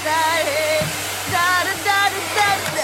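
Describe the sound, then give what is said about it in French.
A hair dryer blows with a steady airy roar in the middle of the day, while wavering high tones rise and fall above it in short bursts. “Est-ce que tu pourrais éviter le bruit du sèche-cheveux en pleine journée?”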